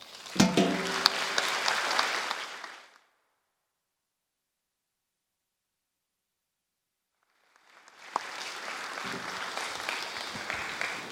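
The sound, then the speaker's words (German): Audience applause at a church audience for the youth's performance and work that day, a dense crackle of many hands clapping for about three seconds, then several seconds of silence before the clapping resumes just as steadily until the end. “Aber ein Applaus auch für die Leistung heute und für die ganze Arbeit.”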